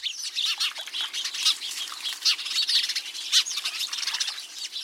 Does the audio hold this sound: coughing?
no